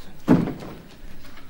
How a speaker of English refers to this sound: Come in, shut the door.